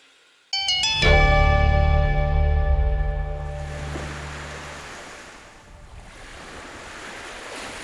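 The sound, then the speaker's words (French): Surf washing up and drawing back on a shore, a broad hissing rush that swells and recedes, partly layered under bright sustained chime-like tones at the start. “Ce ressac qui vous apaise, si vous deviez l'écouter nuit et jour, sans pouvoir y échapper, au bout de combien de temps deviendrait-il un supplice pour vous?”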